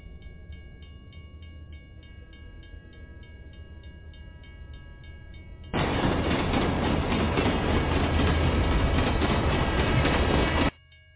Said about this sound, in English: That's when I hear the sound of a train honking from a distance.